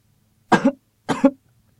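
Two sharp coughs, close and fairly loud, each a short double-pulsed burst about half a second apart, with near silence around them and no talking.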